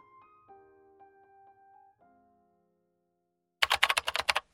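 A few soft sustained musical tones fade out, then after a short silence comes a quick, close burst of about eight or nine crisp keystrokes on a computer keyboard.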